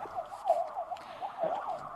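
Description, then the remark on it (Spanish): A police siren at a street protest yelps in a fast, rising-and-falling warble, steady and moderately loud with a little background noise and no voices. “hay mucho ruido, escuchamos las sirenas, escuchamos los disparos.”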